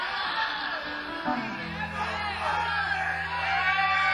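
An audience member yells out a song request from a noisy, cheering crowd at a live show, several shouted voices overlapping, with a low sustained hum from the stage coming in partway through.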